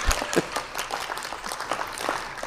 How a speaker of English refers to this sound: I appreciate the thundering applause I received as I approached the podium.